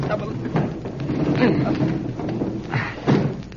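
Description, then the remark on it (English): A window is forced upward by two people pressing against its frame, in a few heavy, straining shoves with dull thuds and creaking scrapes; the strongest bumps land midway and near the end, with faint voices in the background. “I guess we can just press against the frame and push up.”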